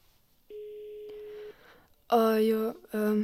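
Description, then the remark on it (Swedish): A school principal's phone call to a student's mother rings with no answer: one steady, fairly quiet ringback tone lasting about a second, followed by two louder, buzzy tonal bursts after a short pause. “Rektorn ringde mamma som inte svarade.”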